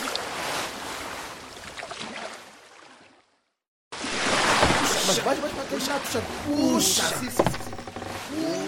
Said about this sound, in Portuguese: Os homens puxam a rede vazia para dentro do barco.